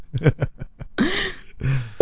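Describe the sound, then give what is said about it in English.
A voice imitates touch-tone phone dialing for a call to Neil Strauss: five quick, clipped beeps, then two longer drawn-out tones, all fairly loud with no other sounds. “At least I didn't do rotary.”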